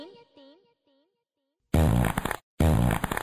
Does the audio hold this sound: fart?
yes